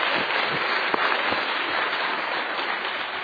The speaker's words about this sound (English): And first of all, I'd like to thank the panel and would give them a little applause for good work.